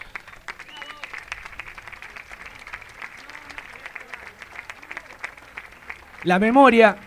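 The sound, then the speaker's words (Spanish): A crowd in San Juan applauds steadily with dense, crackling clapping for several seconds, then a loud voice cuts in near the end. “Creemos que lo que está sucediendo hoy en San Juan y en todo el país en unidad merece un aplauso, porque en unidad vamos a derrotar a estas bestias que hoy nos quieren maltratar, digamos.”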